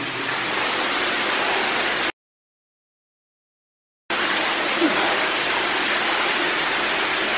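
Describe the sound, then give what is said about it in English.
Loud, steady rushing of water from a canal, a continuous dense roar that cuts out completely for about two seconds midway before resuming just as strongly. No one speaks. “I wonder where that water, what water must have been from the canal.”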